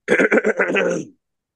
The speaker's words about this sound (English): Okay. Clear your throat.